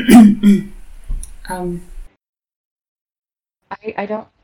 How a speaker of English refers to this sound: We've all gathered ourselves again, and … will sort of approach the Moth Monarch and clear her throat.